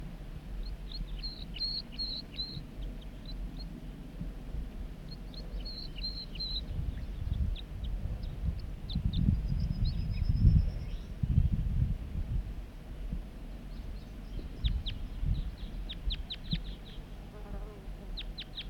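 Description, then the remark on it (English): A wild male bird sings from the top of a big dead snag, short, high chirping phrases in several separated bursts, fairly faint, over a steady low buzzing and rumbling background that swells in the middle. “He's singing now from the top of that big dead snag.”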